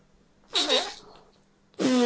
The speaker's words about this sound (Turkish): Ah bak bir tane daha osurdum. E sen de yesen sen de osurursun.